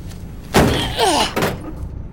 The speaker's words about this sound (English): Okay, now we have to break down this door. Give me some room.